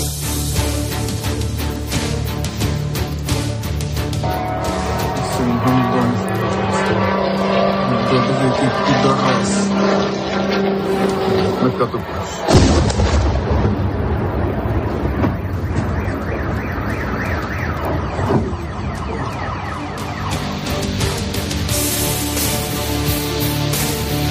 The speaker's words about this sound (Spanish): Así suenan los drones de fabricación iraní con los que Rusia parece estar golpeando a la población ucraniana en las últimas horas. Han sido 43 en total, de los cuales 37 habrían sido derribados por las fuerzas ucranianas.